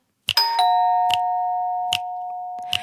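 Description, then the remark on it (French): A doorbell at a house chimes with two clear ringing tones that linger and slowly fade, punctuated by a few sharp clicking taps afterward, fairly loud with no voices. “Écoute, on sonne.”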